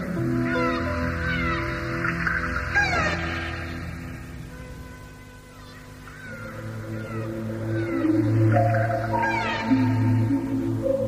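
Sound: dolphin vocalizations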